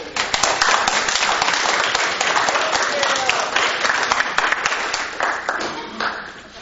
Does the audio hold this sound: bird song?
no